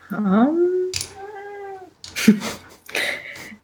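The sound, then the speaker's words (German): A cat meows several times, with drawn-out, wavering calls separated by short pauses, fairly loud and clear with no talking over it. “Fiete rät fröhlich mit. Wir verstehen ihn zwar nicht, aber er hat bestimmt sinnvolle Dinge beizutragen. Ja. Muss ich wieder eine Katze reinmalen?”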